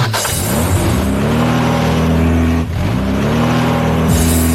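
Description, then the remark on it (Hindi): A vehicle engine fires up and revs as the vehicle is taken out to drive off, climbing to a loud, steady drone, dipping briefly, then revving up again. No one speaks. “अब मैं जा रहा हूँ गाड़ी लेकर उनके सुंडल बुंडल के पास।”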